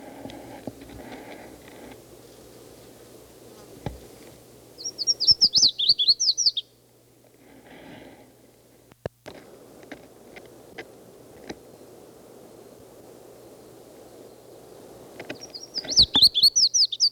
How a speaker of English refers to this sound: It's a red-faced warbler again. This is after several other calls.